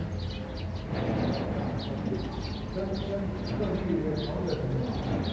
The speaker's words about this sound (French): Maintenant, on les entend un tout petit peu. Plus le cucu des oiseaux.